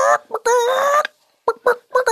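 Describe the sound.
A woman imitates a chicken clucking to call a man a chicken: a few short, clipped clucks, then a drawn-out nasal squawk, a brief pause, and more quick clucking bursts.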